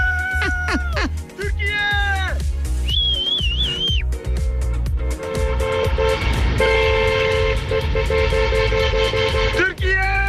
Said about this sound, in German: Ja, der ist noch losgezogen, noch ein bisschen gehupt. Ich fahr gerade einfach alleine nach Hause und hup für euch.